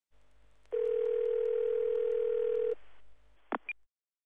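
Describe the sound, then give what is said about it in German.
A loud, steady telephone dial tone hums for about two seconds, then cuts off and is followed by two quick, short electronic beeps. No one speaks. “Ein Telefongespräch.”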